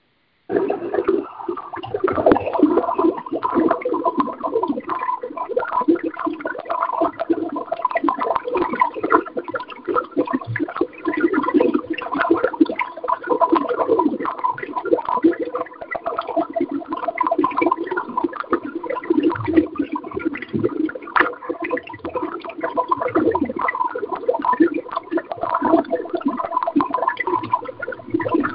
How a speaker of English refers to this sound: And here are your bubbles.